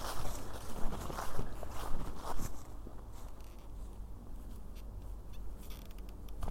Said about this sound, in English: Now my staff decides to be creaky. What's up with that?